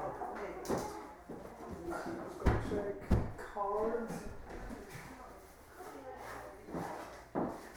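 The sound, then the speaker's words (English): A door bumps and clatters, two sharp knocks a moment apart as it swings and fails to catch shut, with faint background noise and murmuring voices around it. “There's a door. Just. Doesn't close.”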